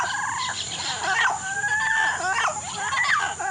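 A mated pair of parrots sing a duet, trading squawks, whistles and chattering calls in a continuous, overlapping exchange, with harsh bursts broken by a clear rising whistle, fairly loud throughout.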